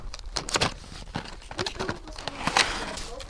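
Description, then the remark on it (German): Small lead figures, blanks for lead pouring shaped like a bell, an elephant and a mushroom, spill out of a bag, half of them falling beside, making an irregular run of sharp clinking clicks and light taps over a few seconds, with faint rustling between the hits. “Da fällt schon alle die Hälfte daneben.”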